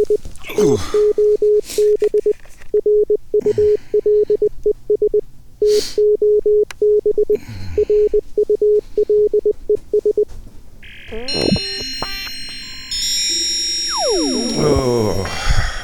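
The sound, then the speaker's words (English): A steady electronic landline telephone ring pulses rapidly and loudly for about ten seconds, then gives way to a jumble of warbling, sweeping electronic tones. “The current time, my phone is ringing. My landline is ringing.”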